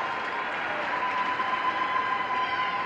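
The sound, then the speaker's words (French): A crowd in the Paul VI audience hall cheers and claps steadily throughout, welcoming Pope Francis at a Saturday midday celebration, and a high, sustained ululating trill rises above the roar from about a second in and carries on to the end. “Acclamations et you-you, François a été accueilli”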